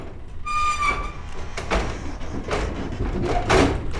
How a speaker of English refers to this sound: They drive into one of the reservation's quarantine corrals, 120 acres of rolling hills carpeted with yellow wildflowers and native grass. After lining up the trailers, the drivers give a nod and quickly open the doors.